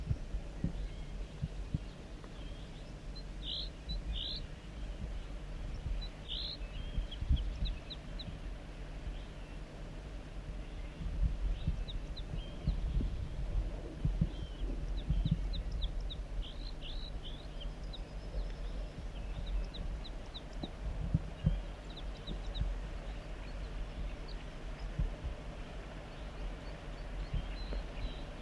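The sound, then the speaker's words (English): Faint song of a newly caught wild banded male bird, joined by the bird 4-3. Short, high, chirping notes come in scattered bursts above a heavy low rumble and occasional dull thumps. No one speaks. “Wild bird songs, joined by 4-3.”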